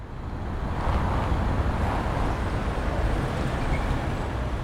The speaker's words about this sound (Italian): La città si rimette in moto, le macchine passano, le persone pure.